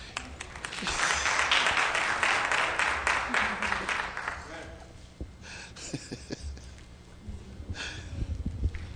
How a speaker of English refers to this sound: Come on, give her a hand clap praise.